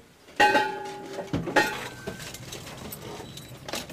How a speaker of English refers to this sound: It's about 8 a.m. on a dark autumn morning on the University of California research vessel Paragon off the coast of Santa Cruz. Four crew members are getting ready to dive, their air tanks banging against the heavy gear